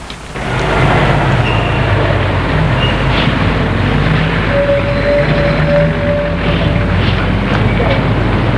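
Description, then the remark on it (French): A metro train rides along the rails with a loud, steady rumble from start to finish, a thin whining hum rising and fading over it, and faint indistinct voices in the background. “Et lui va rentrer chez ses parents en prenant le car et le métro.”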